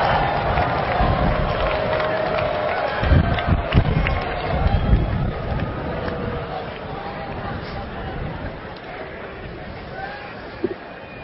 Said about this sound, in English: First, I want you to stand up and wave and cheer your sportive family and friends. I'm sure you can find them out there. Show your love.